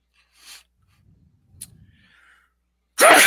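A sudden, loud sneeze bursts out after a few seconds of quiet breathing and faint rustling, with no talking.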